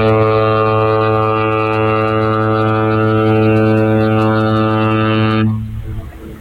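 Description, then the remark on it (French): A ship's horn sounds one long, loud, deep blast lasting several seconds, then cuts off, leaving faint harbor ambience behind as the vessel prepares to leave port. “Il va quitter le port.”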